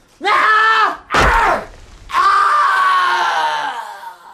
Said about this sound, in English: Even now I can hear that scream.